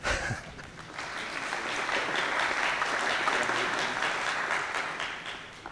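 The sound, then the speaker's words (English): A crowd bursts into sustained applause after a SQL Server 2014 failover demonstration, a dense wash of many hands clapping that swells quickly and holds steady for several seconds without fading, with no voices standing out above it. “Hey, usually we get applause when we do a failover like this.”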